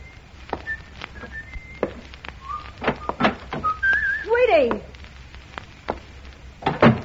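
A man whistles a short, wandering tune in clear, moderately loud notes, with a few sliding pitches, while sharp thuds like footsteps or knocks sound intermittently around it.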